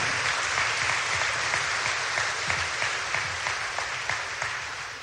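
A crowd applauds steadily and loudly, a dense wash of clapping hands that holds at an even level throughout with no voices breaking through.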